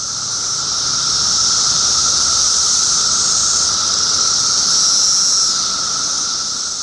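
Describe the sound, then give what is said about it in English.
Cicadas drone in a summer chorus in the United States, loud, steady and high-pitched, a continuous shimmering buzz with a lower hum beneath it, swelling gently in and out over the whole stretch with no voices. “Instead, it's the rhythmic thrum of cicadas, a staple of our summer soundscapes here in the United States.”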